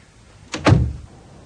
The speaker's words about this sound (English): And let's shut the damn door.